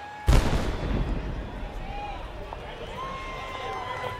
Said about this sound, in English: They fire a cannon